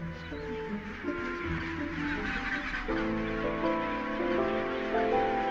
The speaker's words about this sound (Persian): قوه شنوایی پنگوئن بسیار دقیق است که می تواند صدای بچه خود را در میان این هیاهو تشخیص دهد